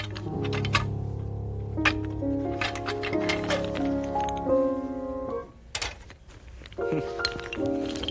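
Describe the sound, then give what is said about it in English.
Toy blocks clatter as a truck dumps them into a bag during clean-up, a scatter of sharp, irregular clicks and knocks over steady background music, with no one talking. “And dump them into the bag.”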